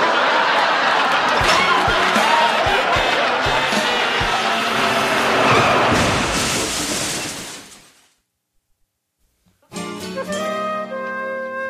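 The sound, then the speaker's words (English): Loud, dense crowd roar at a demolition derby, with car engines and repeated sharp metal crashes as cars slam into one another, fading out after about eight seconds. A brief silence follows before a new tonal passage begins. “Honey, what a demolition derby.”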